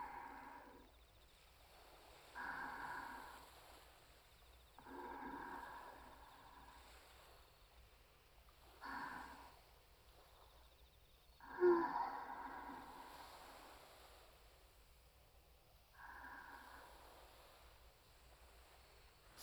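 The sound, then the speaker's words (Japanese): Ocean waves wash in at uneven intervals, each swell rising into a soft rushing surge and fading back into a low steady background murmur. No one speaks. “こうして波の音に包まれながら、あなた様の隣にぴったりと寄り添って、たあいもないお話をしたり、ただ時間が過ぎるのを楽しむ。”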